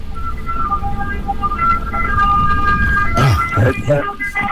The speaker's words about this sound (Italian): Ora c'è anche un'ambulanza. Aspetta, fa passare l'ambulanza.